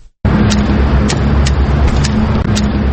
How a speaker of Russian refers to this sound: Это стук белой трости. Людей в темных очках с белой тросточкой, которые они ощупывают тротуар, чаще всего можно встретить в пригороде Тбилиси, Квемопоничала.